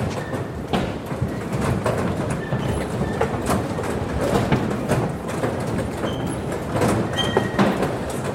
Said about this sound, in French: Il y a un premier moment, c'est juste quand le métro sort de terre.